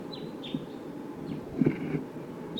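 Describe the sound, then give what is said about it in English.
Wild birds give several short, high, downward-slurring calls at irregular intervals, fairly faint over a steady low rumbling background noise, with no one talking. “There are wild birds here. Calling less now.”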